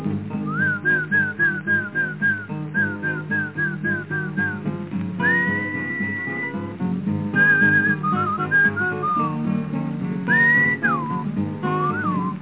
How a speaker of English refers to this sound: But that's a horse. You didn't call him right. You must whistle when you want your horse to come to you. Something kind of like this.